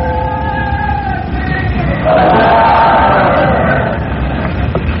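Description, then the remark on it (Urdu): A large crowd at a religious speech loudly chants a slogan invoking the name of Allah in unison, many voices merging into a sustained roar that swells midway and then fades slightly toward the end. “آپ کوئی نعرہ بھی ابھی بلند نہ کریں, جب میں چاہوں گا تو آپ سے نعرے کی درخواست کر دوں گا.”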